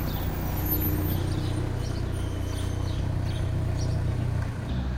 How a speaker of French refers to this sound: Donc on l'entend, les automobilistes mettent un point d'honneur à venir vous saluer, à faire une petite marche arrière à côté de là où on est installé. Vous qui aimez tant le silence et la solitude, je vous laisse apprécier ce petit bruit parasite.